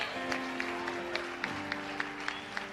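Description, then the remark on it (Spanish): An audience claps in a steady, even rhythm, about three to four sharp claps per second, over a sustained low tone like a held keyboard chord. No one speaks. “Den un aplauso.”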